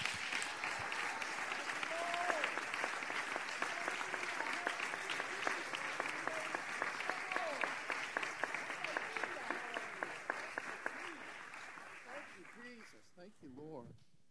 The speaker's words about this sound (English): Let's give that hand clap of praise to Jesus.